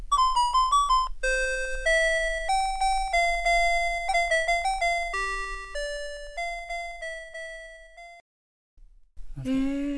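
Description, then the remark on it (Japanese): A Sharp talking clock, made in Showa 55 (1980) and run on two AA batteries, plays a bright, steady electronic chime melody of clear sustained tones, note after note for about eight seconds, then cuts off before a brief burst of another sound. “それと、音声時計、これも 素敵、 はい、ちょっと鳴らしてみます。”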